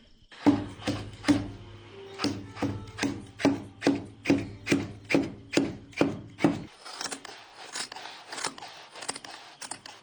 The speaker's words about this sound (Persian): در استان قشنگم چهار محال و بختیاری و خیلی از استانهای دیگر کشور عزیزمون ایران بانوان پرتلاشی هستن که شب و روز نمیشناسن و تا اونجایی که انرژی دارن پای دار قالی هاشون با سرانگشتان هنرمندیشون نقش ترنج میزنن.